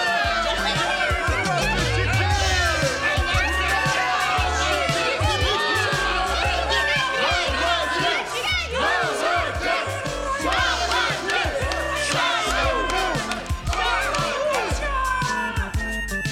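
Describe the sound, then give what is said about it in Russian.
A group of characters, among them a squirrel and a mouse, cheer and shout hurrah ("Ura!") together to congratulate Chik-Chirik, a dense, loud, continuous burst of jubilant noise with overlapping exclamations and some laughter throughout. “Все они поздравляют Чик-Чирика. Ура!”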